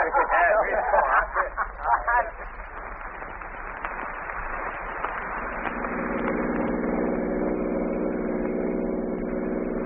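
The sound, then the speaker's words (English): A car engine rumbles along with brief voices near the start, then the noise shifts and settles into a steady, droning idle hum as the car pulls over off the road and stops. “pull right over here, off the road.”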